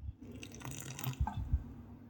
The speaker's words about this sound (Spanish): Y si ahora me cebo un mate, se escucha esto.